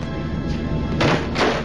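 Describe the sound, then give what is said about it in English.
An elevator door slides open, a low mechanical rumble broken by a couple of short hissing, clunking bursts as the panels move and settle. No one speaks. “He leaves, and Jeannie opens the elevator door.”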